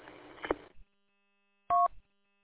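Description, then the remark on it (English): A brief rustling, crackly noise, then a moment of silence before a single loud, steady dual-pitched telephone keypad tone sounds for a fraction of a second. “Phone.”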